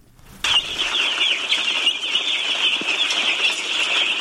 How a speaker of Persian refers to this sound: چوچه های یک روزه مرغ به تازگی از پاکستان آورده شده و قرار است برای پرورش در قریه تتمدره مرکز ولایت پروان داخل یک فارم شوند.